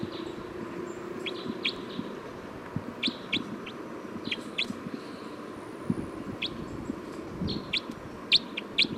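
Calls of a bird logged as bird 305 repeat throughout: short, high chirps in quick pairs and small clusters, over a steady low hum and soft, murmuring clucks. There is no talking.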